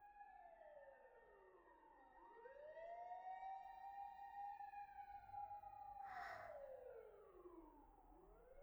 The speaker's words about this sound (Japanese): 外、うるさいね。さっきからずっとサイレンが鳴りっぱなしだ。あの消防車たちはね、山の上に向かってるんだよ。山の上で火災があったから。